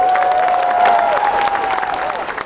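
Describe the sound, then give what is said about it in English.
A crowd of 8,000 at a First Nations rally in Sydney, Australia, cheers and claps in a loud, steady roar, with a long sustained whistle or shout riding above the noise throughout. “addressed a crowd of 8,000 at a Sydney event.”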